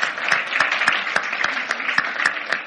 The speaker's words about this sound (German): Aber es war ein fantastischer Einblick und ich glaube, ihr habt uns alle sehr inspiriert, oder? Wollen wir Ihnen einen Applaus geben? Dankeschön. Vielen Dank.